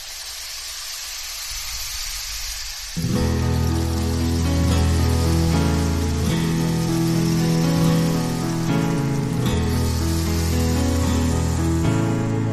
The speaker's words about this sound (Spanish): Y es el agua.